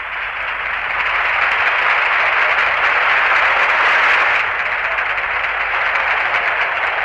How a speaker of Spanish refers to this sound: Puesto que en este instante ha conseguido de nuevo, después de 14 temporadas, el título de campeón de liga. Escuchen la enorme ovación del público de Gijón.